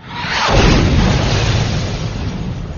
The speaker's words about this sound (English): The middle cannon thunderously erupted, lifting off the tracks even as it sent the hot iron out the gun port.